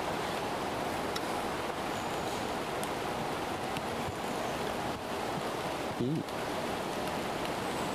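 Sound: heavy rain getting heavier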